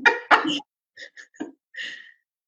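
Two quick, harsh coughs, followed by a few short, scattered throat-clearing noises, then quiet.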